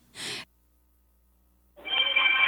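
A short breathy gasp, then after a pause a telephone starts ringing loudly, a sustained trilling ring that continues to the end.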